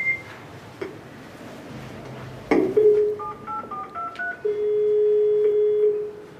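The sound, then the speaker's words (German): A doorbell intercom being rung again, the top bell, as part of an experiment: a clunk, then a quick run of short electronic keypad beeps at shifting pitches, followed by a long, steady ringing tone. No one speaks. “Jetzt müssen wir wieder klingeln.”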